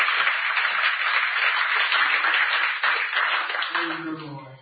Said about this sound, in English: Well, can you clap those hands and act like you love him tonight? Hallelujah.